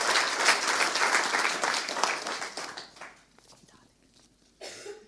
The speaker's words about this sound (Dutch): Ik denk dat wij hem absoluut gaan missen op dit soort vlakken en zijn inzet en betrokkenheid hier in de Raad en ook bij de WLP. Een warm applaus voor jou